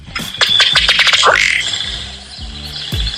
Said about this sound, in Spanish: Siri, dime cómo suena un pato.